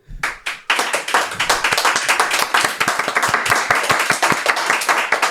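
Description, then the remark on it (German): An audience breaks into applause to rate a wine, a brief burst followed by steady, sustained clapping from many hands, moderately loud, with no talking over it. “Viel oder wenig Applaus für den Wein von Dietmar.”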